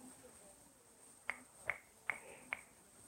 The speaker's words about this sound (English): Like a finger snap, for example.